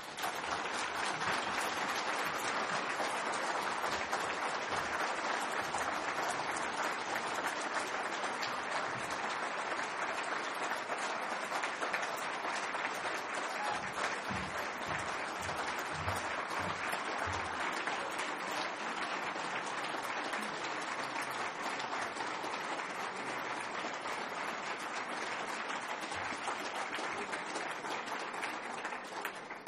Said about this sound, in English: Well, I think that applause confirms that we are all very privileged to have been here to hear those words from Professor Triggs.